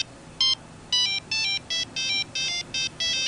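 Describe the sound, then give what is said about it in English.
A cell phone rings in a college dormitory room at the State University of New York at Brockport with a bright, tonal electronic melody, a rapid run of repeated chirping notes in short bursts, clear over a quiet background with no talking. “She spends a lot of time on her cell phone these days.”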